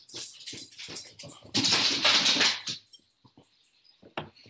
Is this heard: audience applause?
no